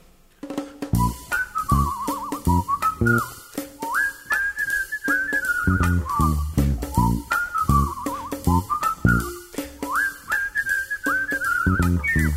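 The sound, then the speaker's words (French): A whistled tune carries a bright, wavering melody with quick trills and sliding notes, played over a steady, rhythmic instrumental backing that continues throughout. “À ces mots, le beau papillon, fier d'être par une rivière, ailé ainsi qu'un roi lion, ouvrit ses ailes, siffla son air.”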